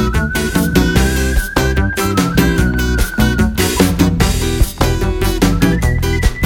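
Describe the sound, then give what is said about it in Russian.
A steady, high whistled melody carries over a busy, loud musical backing with a strong beat, holding long notes with small pitch shifts throughout. “Свистишь тут, все равно не находит.”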